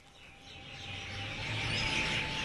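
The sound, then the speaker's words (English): A dense, continuous wash of spring birdsong in Islamabad, many birds chirping and trilling at once over a low outdoor rumble, growing slightly louder toward the end. No one speaks. “The roses are in full bloom, the birds are in full song.”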